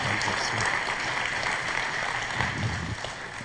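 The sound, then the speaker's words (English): A crowd claps together as a clap offering to the Lord for a testimony, in a steady, dense wash of applause that holds at an even loudness for several seconds, with no voices standing out. “So we have a clap offering to the Lord for this testimony.”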